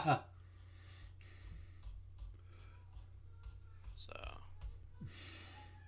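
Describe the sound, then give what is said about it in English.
Scattered, irregular clicks and taps of computer keyboard keys as a cat sits on the keyboard, fairly quiet, with a few sharper presses over a steady low background hum. “The keyboard is not meant for your butt.”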